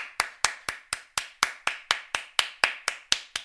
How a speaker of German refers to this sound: Applaus.